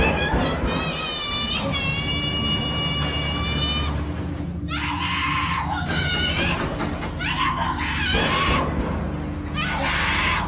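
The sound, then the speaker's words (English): A person screams loudly and desperately for help at a woman's door at 1 a.m. in the Philippines, begging to be let in while trying to open the door, in a series of long, shrill, wavering cries in repeated bursts over a constant low rumbling background, intense throughout. “woke up in the middle of the night to the horrifying sounds of someone screaming at her door, desperately trying to get in”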